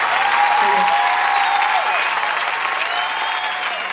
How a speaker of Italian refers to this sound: Avremmo voluto essere anche noi tra coloro che applaudivano e si emozionavano così ad ascoltare questa meravigliosa versione di